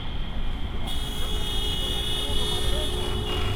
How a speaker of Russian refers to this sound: Самолет из Москвы приземляется на аэродроме. Да, он был в столице всего 9 часов назад.